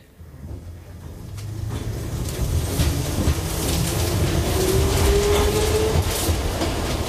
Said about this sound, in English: Underground on the underground in the 1960s. We're outlaws. We're riding tube trains. We're moving up and down the carriages